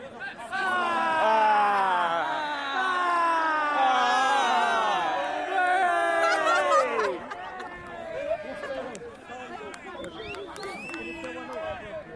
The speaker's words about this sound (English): It's all kicked off here. People shouting at the ref, saying he does need a pair of glasses. He awarded a free kick to UWL.